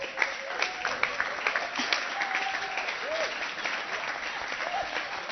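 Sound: audience clapping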